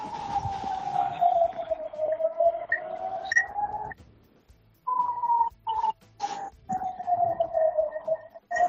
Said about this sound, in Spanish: Otra es la sirena. No sé si las podéis escuchar.